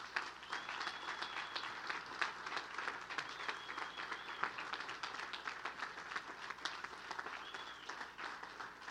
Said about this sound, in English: So proud of these guys. Will you give them another round of applause?